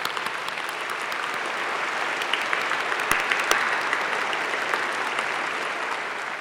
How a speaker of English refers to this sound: So let's have a round of applause for your parents, families, friends, and all those who supported you during your time at Human Ecology.